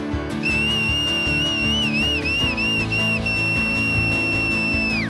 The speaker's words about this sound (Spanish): ¿Quién silba conmigo?